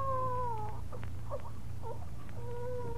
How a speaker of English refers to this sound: No, that wasn't no coyote. Why, it's a baby.